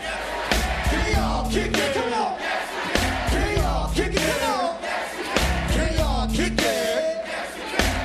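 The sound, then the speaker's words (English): A large crowd shouts "yes, you can" together in loud, repeated bursts about every two and a half seconds, answering a call from the stage, with a deep, pulsing bass beat thumping underneath. “When I say, … I want y'all to say, yes, you can.”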